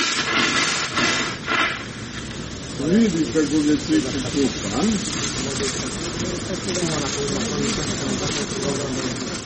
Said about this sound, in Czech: Dok zadovoljno maše surlom pod mlazom hladne vode, ova slonica koja je prevalila četvrtu deceniju života jedna je od najvećih atrakcija za posetioce.